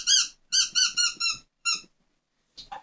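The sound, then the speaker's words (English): A squeaky chicken dog toy, the second one brought out for a dog, lets out a quick run of shrill, whistling squeaks, five or six in a row, then pauses before one last shorter, wavering squeak. No one speaks. “over that hole or the other one, which happens to be between its legs, don't ask, I didn't design it, then it will squeak.”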